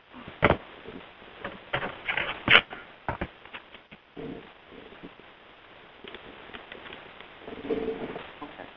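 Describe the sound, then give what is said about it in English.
Irregular bursts of keyboard typing from an unmuted phone participant come through a muffled, narrow phone line into a meeting room, with sharp clicks and clacks in quick clusters separated by brief pauses, moderately loud. “If you're on the phone, please know if you're not muted, sounds like keyboard chatter or beeps and chimes can be heard here in the room.”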